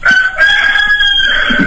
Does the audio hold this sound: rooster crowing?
yes